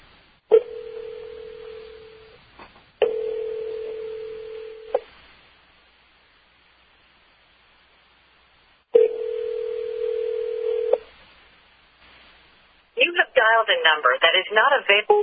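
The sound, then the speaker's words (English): A steady, low telephone tone sounds in three long beeps of about two seconds each, separated by pauses of silence, while calling an 800 number; then a voice starts speaking at the end. “Yeah, and I'm going to call an 800 number that I have two of them here.”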